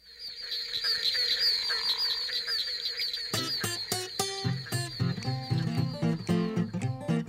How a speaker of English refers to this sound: The barking tree frog is easily recognizable in a chorus recorded in Highlands County, Florida, even though 10 other species of frogs were calling at the same time.